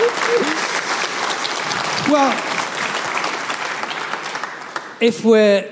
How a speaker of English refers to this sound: if we are going to give some applause, can we give some to my superb interlocutor tonight? Absolutely inspired. The next generation of historians. Give her a big hand.